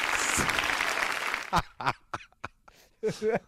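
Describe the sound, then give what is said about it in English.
A dense burst of applause-like crackle on the 99 FM ESPN radio show fills the first second and a half, then gives way to short, sharp vocal whoops and honking yelps with silent gaps between them. “Give us the applause. Yeah, that was it right there.”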